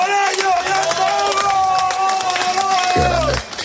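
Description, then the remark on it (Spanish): Excited shouting and cheering from children with rare diseases, their families and the medical team as they finish the Camino de Santiago, many overlapping voices yelling with high, sustained cries, mixed with scattered clapping. “Bueno, esto que escuchas son los gritos de emoción de los niños, de sus familiares, de todo el equipo médico que les ha acompañado en la aventura.”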